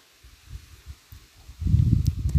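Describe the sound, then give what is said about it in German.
Leaves rustle softly in a breeze, with a low, airy whoosh that swells into a stronger, steadier gust near the end. No voices. “Vielleicht hörst du das Rauschen der Blätter im Wind.”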